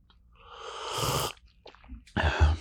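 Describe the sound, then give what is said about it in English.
A drawn-out yawn: a long breathy intake swelling for about a second, a pause, then a shorter, heavier exhale at the end, with no speech. “I am giving myself permission to yawn in your ears, little bunny.”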